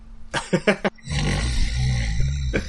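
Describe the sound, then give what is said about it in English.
A steam-driven saw: four quick hissing chuffs, then a loud, steady grinding roar with a low rumbling hum underneath that holds to the end. “You hear the delicate sound of a steam-driven saw.”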